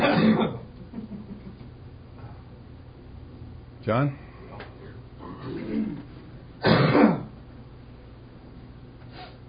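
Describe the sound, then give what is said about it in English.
Three harsh bursts of coughing and throat clearing, spaced a few seconds apart, with a quiet stretch of low murmuring and a brief spoken word between them. “Can I cough now?”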